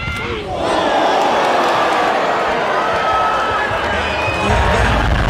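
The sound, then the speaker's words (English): A large crowd roars and cheers continuously at a Run Nation event, a game where two men, one holding what looks like a rugby ball, run into each other as hard as they can; a dense wash of shouting voices with a few whoops rising above it, swelling louder toward the end. “And they love it. Crowd loves it.”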